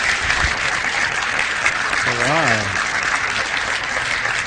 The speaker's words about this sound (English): I always like it when people clap ahead of time, because then if I do a terrible job, it doesn't matter, right?